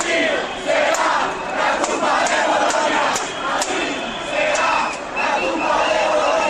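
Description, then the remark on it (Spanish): A large crowd of student protesters from Madrid's Complutense, Autónoma and Carlos III universities shouts slogans together inside Atocha station in Madrid, a dense, loud roar of many voices that swells and dips in waves with sharp cries rising above it. “Los estudiantes de las tres principales universidades madrileñas, la Complutense, la Autónoma y la Carlos III, se han desplazado alrededor de mediodía a la estación de Atocha, ya dentro de la estación han empezado los gritos y las consignas.”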